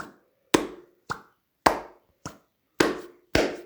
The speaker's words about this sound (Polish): Pierwszy odgłos. Prawa dłoń oraz lewa dłoń uderzają o siebie w sam środek. Jakbyśmy chcieli uścisnąć sobie dłonie. Nasze własne dłonie. Ten dodatkowy dźwięk to efekt odrywających się dłoni.